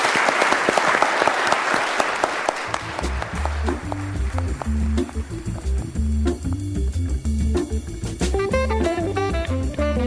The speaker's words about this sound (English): Round of applause for our jury for really